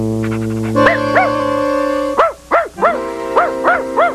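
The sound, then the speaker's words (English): A dog gives a quick series of short, high yipping barks, about seven in all, in an uneven rhythm over a steady sustained tonal background. “The dog will not bring back the bone.”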